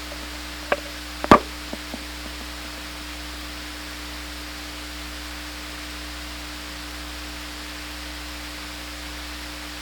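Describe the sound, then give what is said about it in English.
A few sharp knocks land close together in the first couple of seconds, like someone rapping on a door. Then only a steady background hiss and low electrical hum continue, with no voices. “I had somebody at the door.”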